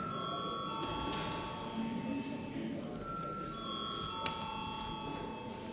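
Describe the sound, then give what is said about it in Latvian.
A parliamentary voting bell rings steadily for several seconds, a continuous electric tone over a low murmur of background voices and room noise, rung before a vote on a bill amending the law on state social insurance. “Paldies, lūdzu zvanu.”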